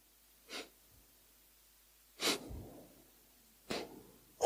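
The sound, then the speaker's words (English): A person imitates the short, shallow breathing of someone in a coma state: three quick, breathy puffs, spaced more than a second apart, with quiet pauses between and no talking. “Those who get into coma state, breathing become short.”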